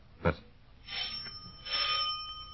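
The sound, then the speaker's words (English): A doorbell at the front door of a house rings twice, each ring a bright, metallic, sustained tone lasting about half a second, after a short sharp click at the start. No one speaks. “Listen. Front door.”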